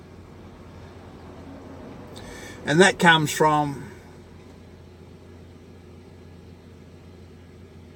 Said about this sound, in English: well, that's a nice big truck.